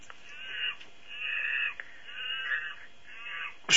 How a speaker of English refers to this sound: Here you go. Is that a monkey? Yeah.